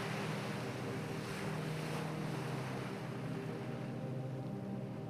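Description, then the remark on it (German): Steady roar of ocean waves breaking nearby against jagged rocks below huge rocky cliffs, a dense continuous wash of surf with wind noise rushing across the microphone and a low droning hum underneath, no voices. “Es sind die Wellen des weiten Ozeans, die ganz in der Nähe an schroffen Felsen zerschellen.”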